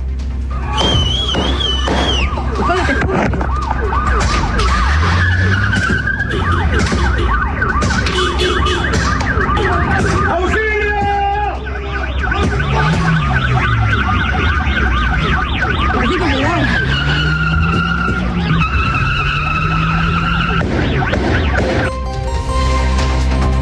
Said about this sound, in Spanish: Dramático el audio ambiente y también el video, porque se escuchan disparos, se escucha la huida de estas personas que andaban en un vehículo Suzuki de color blanco